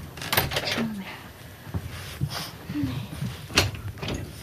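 A door being closed at a home for old dogs, with several sharp clunks and knocks spread over a few seconds, plus faint background noise and brief vocal sounds.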